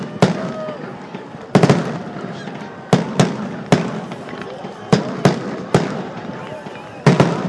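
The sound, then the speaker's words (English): A fireworks finale in a neighborhood: a rapid, irregular barrage of about a dozen loud booming bursts, each trailing off in an echoing rumble before the next blast hits. “If you've seen one fireworks display, you've seen them all.”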